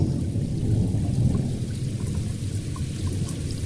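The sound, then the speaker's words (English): Steady, dense rain pours continuously with a deep, rolling rumble of thunder underneath, filling the whole stretch at an even, fairly loud level with no voices. “But when they're about to go, then suddenly it starts raining and he comes down from the clouds.”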